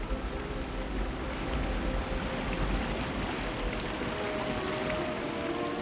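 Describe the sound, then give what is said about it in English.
A swift river rushes and churns, waves smashing over boulders that poke up from the water, in a steady, dense roar, with a constant hiss of splashing water and a low rumble underneath. No voices. “Waves smash over boulders which poke up from the swift river.”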